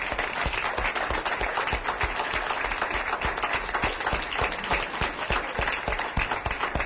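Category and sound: crowd, audience applause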